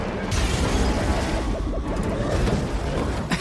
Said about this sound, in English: Whoa, it's turning quite Star Trek. We're getting sci-fi noises, flashing lights. Oh my god, a UFO crashing to Earth? There is an actual Predator-style capsule crashing into the jungle.